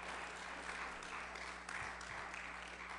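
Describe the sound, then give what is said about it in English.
A crowd applauds its pastor and leader steadily, a dense wash of many hands clapping at once, loud and sustained without pauses, with a low steady hum underneath and no one speaking. “Would you clap your hands for your pastor and leader?”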